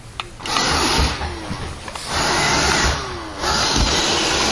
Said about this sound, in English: I'm under the chair trying to get the Roomba out. I'm pulling the chair out of the way so I can get under here and get to it. It's way back in here.